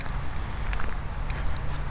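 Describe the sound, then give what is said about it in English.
A cicada's thin, high-pitched buzz starts up by a billabong and drones steadily, fairly faint against a low outdoor rumble, with no one speaking. “So, oh, I think I heard a cicada tried to start up, but I gave him a dirty look and he thought better of it.”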